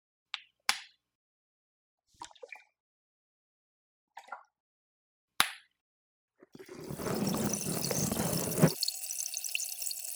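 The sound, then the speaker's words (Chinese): A few scattered wet clicks and drips, then a loud, dense crackling fizz of specially made bubbling water applied in the ear canal during ear cleaning starts suddenly and keeps hissing steadily to the end. “接下来一样，使用特制的气泡水涂抹在耳道里面。”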